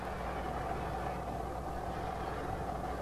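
engine running

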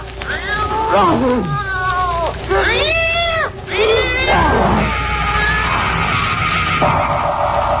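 cat yowling

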